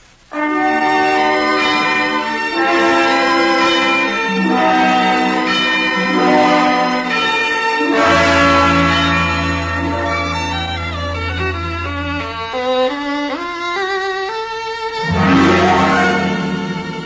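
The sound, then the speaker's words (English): Church bells ring out in a slow, stepping melody of sustained tones in the Family Theater radio story The Music of a Broken Bell, backed by a deep low drone that swells in the middle, loud and resonant with no voices. “Pedro de Cordova will return following tonight's family theater story, The Music of a Broken Bell, starring Otto Kruger and Sigrid Gurry, with Barry Kruger as narrator.”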